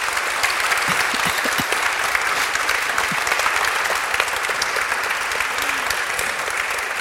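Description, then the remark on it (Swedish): A large festival audience at a stage show applauds steadily for several seconds, a dense wash of many hands clapping at once, sustained and fairly loud, with no talking over it. “Ge nu en massa snälla applåder, för man vet aldrig hur mycket prestationsångest som ligger bakom ett lyckat skämt, eller hur?”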